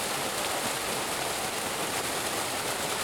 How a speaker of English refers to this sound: Visitors can once again access picturesque Morgan Falls, where water flows relatively gently over a rock face.